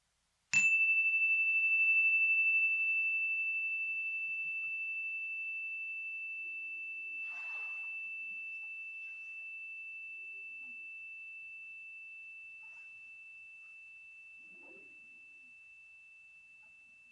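A single meditation chime, used in a loving-kindness meditation, is struck once, ringing with a clear sustained tone that slowly fades over many seconds in otherwise quiet surroundings, with a few faint soft noises in the background.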